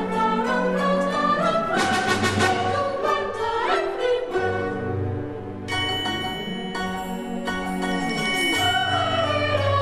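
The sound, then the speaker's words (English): Bells ring out within a full orchestral passage of an opera, after an atmospheric section, their bright, shimmering tones layered over sustained strings and brass, loud and continuous throughout with no talking. “And let's have a listen to then, when that kind of atmospheric section goes on for about a couple of minutes, but then the bells start to ring and we hear different voices.”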